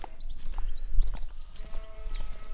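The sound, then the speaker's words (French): Sheepfold ambience in the sheep section of a farm: a low rumble with shuffling, hoof-like steps and small knocks, while birds chirp and twitter throughout at moderate volume. No one speaks. “Donc là, on a le coin bergerie. Là, c'est le côté mouton.”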